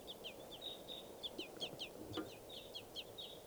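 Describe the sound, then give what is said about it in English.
Baby wild crossbills beg up in the trees in a rapid series of high, thin chirps, repeating in quick bursts, over a low background rumble and some faint clucking. “the wild crossbills are up in the trees, and this is bird .387 calling here, begging baby in the trees.”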